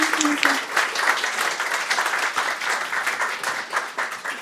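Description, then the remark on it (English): An audience applauds steadily after a story is read, a dense, even wash of many hands clapping at a fairly loud level with no pauses, sustained throughout without anyone speaking. “Round of applause”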